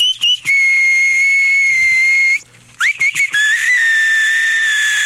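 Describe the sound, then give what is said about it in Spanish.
A shrill, steady electronic-sounding whistle from a battery-powered novelty whistling keychain sustains loudly for over two seconds, breaks off briefly with a few chirpy blips, then resumes as a long high tone with faint hiss underneath. “Con su llavero chiflador, usted puede relajarse haciendo, mientras otros escuchan una bella sinfonía de viento.”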